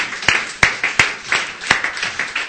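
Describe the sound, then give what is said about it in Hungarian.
Audience applause with dense, steady clapping, a few sharp individual claps standing out irregularly above the crowd's patter throughout. “Nagy tapsot nekik!”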